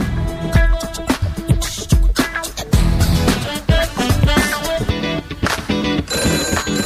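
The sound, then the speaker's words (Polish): A telephone rings loudly and insistently for several seconds, a busy repeating pattern of bright tones over rhythmic thumps, with no one speaking; it is an incoming call from a caller placing a classified ad. “Kolejny telefon, kolejne ogłoszenie.”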